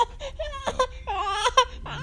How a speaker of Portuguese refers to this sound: tá chorando aqui ao meu lado.